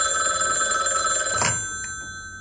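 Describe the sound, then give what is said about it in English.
An old telephone bell rings with a steady, bright metallic jangle for about a second and a half, then a click cuts it and the ringing tones fade out. Nobody speaks. “Can dogs use these talking devices?”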